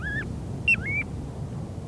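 Clear, whistled notes of a piping plover on a beach: a rising-falling pipe, then a short peep and a longer slurred whistle, over low, steady background noise like wind or surf.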